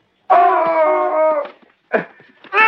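A dog lets out one long, loud, steady howl lasting about a second, followed by shorter whining, whimpering cries, with no talking.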